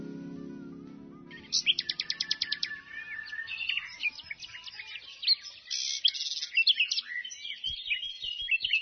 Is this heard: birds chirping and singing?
yes